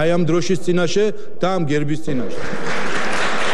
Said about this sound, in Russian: Здесь спикера Папуашвили однопартийцы перебили аплодисментами.